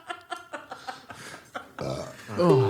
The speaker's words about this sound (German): Ich unterdrücke meinen Rülpser mit Schlucken.